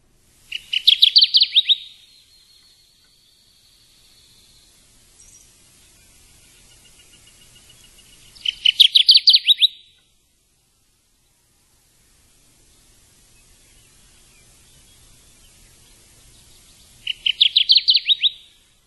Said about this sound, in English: I think when we hear the word warblers, we think of singing, and we do have audio of the Kirtland's warbler song. So let's take a listen to that.